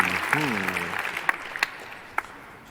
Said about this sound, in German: Ganz schön viel Applaus für so viel Uff. Auch Uff kann schön sein.